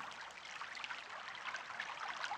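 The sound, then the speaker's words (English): A steady rush of stream water flowing over stones toward a canal just round the corner, continuous and bright with a fine bubbling texture, moderately quiet, with no voices. “And if there is a fish in that water below you, then it might be heading for the canal, which is just round the corner”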